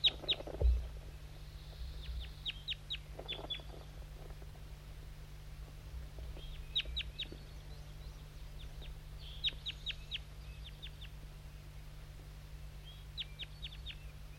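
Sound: birds calling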